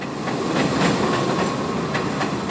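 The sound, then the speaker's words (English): An elevated number 7 subway train near Courthouse Square station in Long Island City rumbles loudly and steadily past, its wheels clattering over the track joints in a regular clickety-clack rhythm, with no voices. “Many people catch their first glimpse of Five Points from the elevated number 7 train near the Courthouse Square station.”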